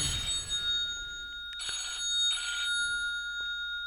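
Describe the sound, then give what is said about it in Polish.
A telephone rings in short, buzzy bursts, two clear rings in quick succession after a softer start, at moderate volume with no one speaking over it. “Przepraszam, miałem telefon. Wybiło mnie to zupełnie z rytmu.”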